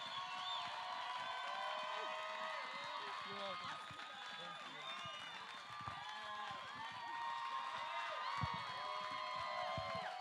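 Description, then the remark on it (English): Steady audience applause with cheering and scattered whoops as the next speaker is brought up, a dense, loud crowd roar that holds at an even level for about ten seconds. “Go ahead and give her a round of applause.”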